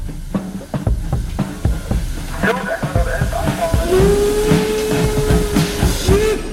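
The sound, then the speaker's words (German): A steam train of the Schlossgartenbahn in Karlsruhe, Baden, Germany chuffs in quick rhythmic bursts amid loud hissing steam, then a long, steady whistle sounds for a few seconds, prominent. “Der Zug, das ist die Schlossgartenbahn in Karlsruhe in Baden.”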